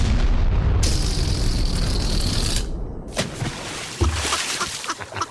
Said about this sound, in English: Now, we do have exclusive audio of the shooting down of the spy balloon. I don't know if any other news outlets have this.